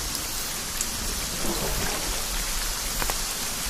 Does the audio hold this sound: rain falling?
yes